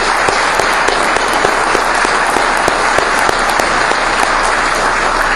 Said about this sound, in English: I do want everybody, I would appreciate if everybody would give Steve a round of applause for all the work he did in getting you all out here.